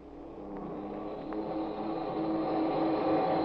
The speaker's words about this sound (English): We hear the frantic whine of the motors as they draw the huge ship toward the water.